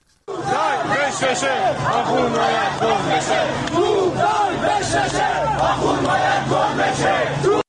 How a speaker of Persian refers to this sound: بریم به قم یه صدای معترضان اونجا رو بشنویم.